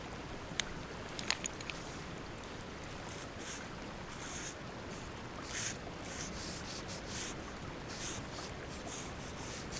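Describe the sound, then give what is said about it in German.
A steady scratchy rubbing of charred wood from a fire pit scraped across a surface while writing, continuous and gritty, with a few sharp clicks and taps early on and brief brighter swishes partway through. “Wir schreiben mit verkohltem Holz.”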